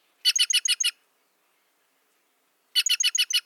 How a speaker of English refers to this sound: The jays' noisy, rasping chatter helps ward off predators and keep their colorful kin together. Listen carefully for their clangorous calls for a chance to glimpse these gems yourself.